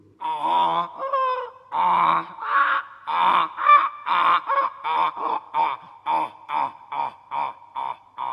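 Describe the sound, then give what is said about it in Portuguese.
A donkey brays loudly, a long harsh hee-haw that breaks into a steady run of rhythmic, wheezing honks, gradually shortening toward the end. “Isto é o zurrar de um burrinho.”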